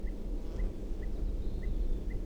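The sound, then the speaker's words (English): A bird gives repeated alarm calls near its nest, recorded from right underneath the nest tree at 6:57 p.m.: five short, high chips at a steady, evenly spaced rhythm, fairly faint over a constant low rumble. “Alarm calls again.”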